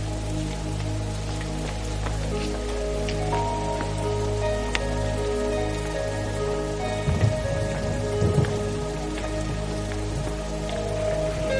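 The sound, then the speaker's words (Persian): Steady rain pours down, spattering on a hard surface in a dense, continuous hiss with a low background hum, louder bursts of drops coming through near the end. No one speaks. “اگه میشه بشینیم تو حیاط. تو این بارون؟”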